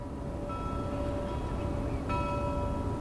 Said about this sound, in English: On this clear and sunny morning, a bell tolls on a nearby buoy.